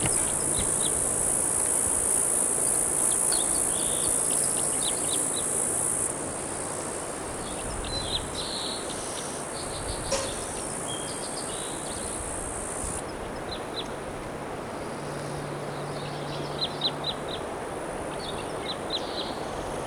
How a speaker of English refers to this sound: Recording is a crossbill nearby singing here at 2:29 p.m.